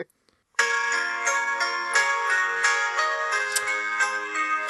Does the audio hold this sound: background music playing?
yes